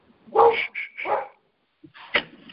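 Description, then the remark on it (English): A dog named Seven barks a few times: a quick cluster of two or three sharp barks, a short pause, then one more bark. No one speaks. “My dog, Seven, says hi.”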